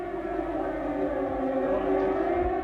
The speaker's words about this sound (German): Um 0.33 Uhr in der Nacht ertönt der Fliegeralarm.